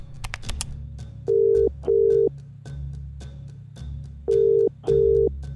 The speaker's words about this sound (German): Hastig nimmt sie den Wasserkocher vom Herd, greift zum Telefon und wählt die Rufnummer ihrer Schwester.